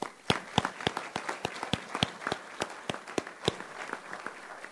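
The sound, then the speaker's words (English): A crowd applauds the Bay County Chamber, with sharp, crisp claps at an uneven pace and a few louder ones standing out over a softer patter. No one speaks. “And so I can't say enough, but I'd like to give a round of applause again for the chamber, Bay County Chamber.”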